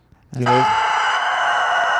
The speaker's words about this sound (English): Is that the dog that fronts that metal band? No, that's a rooster.